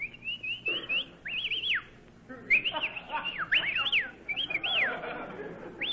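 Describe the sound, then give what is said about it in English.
Several sharp, high whistles to hail a taxi cab, in quick bursts, each sliding up and down in pitch, coming in two clusters with a brief pause between, fairly loud over faint background noise. “Well, we may as well whistle at each other.”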